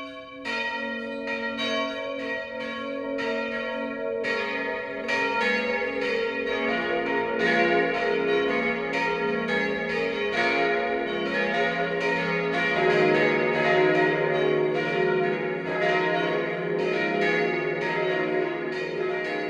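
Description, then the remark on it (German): A peal of church bells rings at noon from the parish church of Maria Immaculata in Walda, Upper Bavaria, Germany, several bells striking in overlapping, steady succession with rich, lingering tones. The ringing is full and continuous, with no voices. “Das Mittagsläuten kommt heute von der Pfarrkirche Maria Immaculata im oberbayerischen Walda.”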